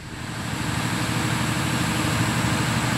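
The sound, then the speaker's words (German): A generator in the rainforest drones steadily, powering the data measurement station on a Global Atmosphere Watch tower. Its low engine rumble pulses evenly beneath a broad hiss that stays constant at a moderate level, with no voices. “Aber warte mal, also, ist das ein Generator? Ja. Mitten im Regenwald?”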